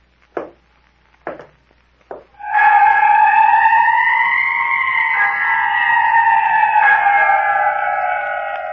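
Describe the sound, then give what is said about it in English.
Three slow, evenly spaced footsteps thud on the wooden boards of a porch, then a loud, long wavering moan, like a drawn-out creak or wail, rises and holds to the end. “I heard footsteps on the porch.”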